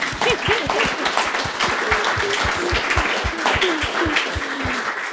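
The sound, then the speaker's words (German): An audience applauding steadily, many hands clapping in a dense, continuous patter at an even loudness, with faint voices murmuring underneath throughout. “Ich würde ganz gerne, ganz gerne klatschen.”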